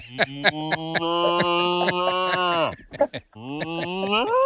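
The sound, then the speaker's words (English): A loud, drawn-out cow call in a pasture, voiced by a person imitating a lowing moo, holds steady for nearly three seconds, breaks briefly, then rises again, with a regular clicking rhythm underneath. “just got a cow call going on there.”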